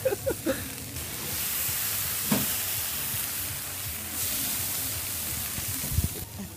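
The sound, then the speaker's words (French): Chicken sizzles steadily on hot embers, a dense crackling hiss that runs throughout, with a few low thumps and brief clinks breaking through near the start and end. “On va se quitter sur les petits bruits de votre poulet en train de chointer sur la braise”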